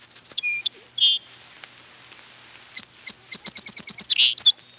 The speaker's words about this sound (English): The song of Lincoln's sparrow is much prettier than that of the song sparrow. In spite of its name, the song sparrow's song isn't much to hear. Kim Eckert claims it's one of the ugliest in the bird world.